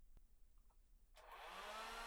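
hair dryer blowing

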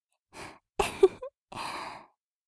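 yawn

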